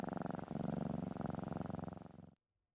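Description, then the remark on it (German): A cat purrs steadily for a couple of seconds, a continuous low rumbling rhythm that cuts off abruptly into silence. “Es hat auch länger gedauert natürlich, bis du sie zum Schnurren gebracht hast”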